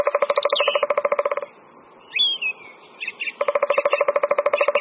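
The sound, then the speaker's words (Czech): A song thrush sings brief, clear whistled phrases in the background, heard mainly in a gap between two loud, rapid rattling bursts that dominate the start and end. “V pozadí nahrávky, kterou posloucháme, poměrně intenzivně zpívá drost zpěvní.”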